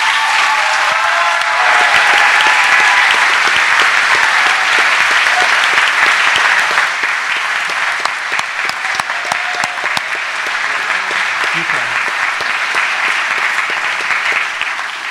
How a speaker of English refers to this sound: Father, we know that brings excitement and joy to us, and we're clapping like the angels are rejoicing in heaven